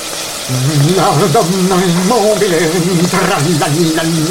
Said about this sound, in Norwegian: Og så litt rask steking.